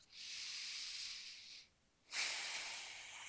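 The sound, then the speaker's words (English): Two long, airy breaths drawn out slowly, with a short pause between them, soft with no talking, like someone exhaling deeply and steadily during a belly-breathing exercise: breathing in through the nose and out as if blowing out birthday candles. “And as you continue that breathing in and breathing out, like you're blowing out birthday candles, you just notice your hands going up and down on your belly.”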